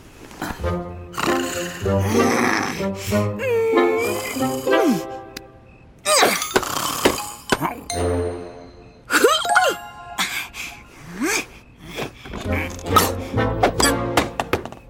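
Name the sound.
person snoring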